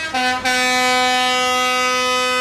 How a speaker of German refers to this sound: Mit lautem Hupen rollten Treckerkonvois über Straßen, durch Städte und Kleinstädte. Damit haben Landwirte heute gegen das Agrarpaket der Bundesregierung protestiert.